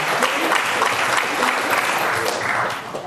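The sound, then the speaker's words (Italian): Steady applause from an audience for the young students fills the space, dense clapping sustained for a few seconds at a fairly loud, even level before easing slightly at the end. “Un applauso ai ragazzi ovviamente.”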